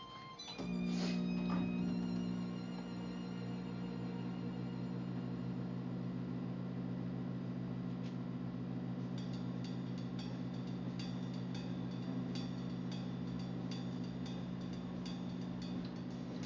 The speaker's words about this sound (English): About to run the microwave for about 20 seconds, y'all. Excuse me, I gotta warm my coffee up.